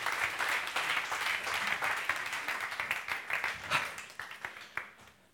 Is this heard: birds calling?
no